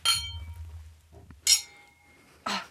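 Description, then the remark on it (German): Three bright glass clinks ring out, spaced roughly a second apart, each leaving a clear sustained tone. Wine glasses touching in a toast, with a low hum underneath. “Prost. Prost. Prost. Prost.”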